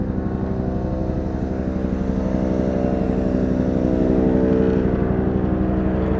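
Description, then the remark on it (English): A helicopter drones steadily overhead with a dense, pulsing rotor thump, loud and continuous, swelling slightly toward the end as it passes. No voices are heard. “Right now a helicopter is flying.”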